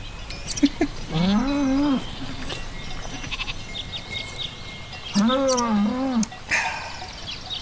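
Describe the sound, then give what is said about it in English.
Two drawn-out, wavering mooing calls from cows, each about a second long and a few seconds apart, over steady outdoor background noise. “And these cows, what the hell?”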